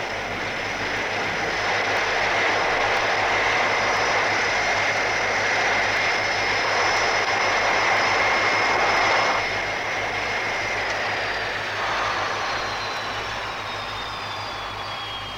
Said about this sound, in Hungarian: Kapcsold ki a motorokat! Kapcsold ki a motorokat! Próbálj meg átkapcsolni! Automatikára! Van!